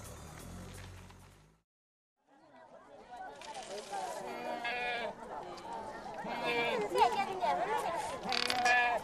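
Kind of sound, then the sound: animal, goats bleating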